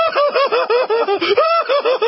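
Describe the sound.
A voice imitates Woody Woodpecker's cackling laugh: a loud, rapid string of high, bouncy staccato syllables, about eight per second, repeating for two seconds with one brief break midway.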